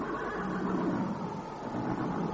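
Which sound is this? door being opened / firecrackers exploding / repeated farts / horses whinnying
horses whinnying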